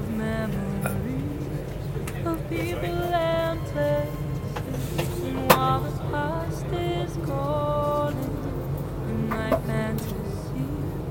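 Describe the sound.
A steady, deep rumble fills a moving Virgin Trains carriage, constant throughout, with muffled indistinct voices and a few sharp clicks and knocks over the top.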